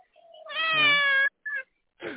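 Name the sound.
cat meowing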